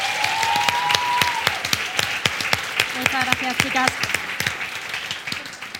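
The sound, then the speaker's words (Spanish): A burst of audience applause for a woman being introduced, dense and steady clapping with sharp irregular claps over a noisy wash, while a voice speaks briefly over it and a few whoops or cheers rise midway. “así que un fuerte aplauso también para ella.”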